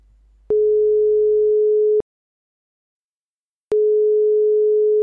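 A telephone ringing tone before a call connects: a steady, clear electronic tone sounds for about a second and a half, pauses, then starts again. No voices, just a faint low rumble at first.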